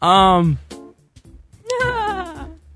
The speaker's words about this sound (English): Is that a goat? What was that?